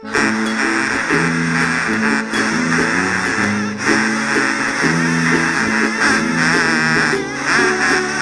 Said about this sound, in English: Ducks.